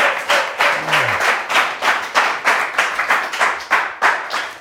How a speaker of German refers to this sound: Wie früher, ich wollte gerade sagen, so viel Applaus bist du ja gewohnt, ne?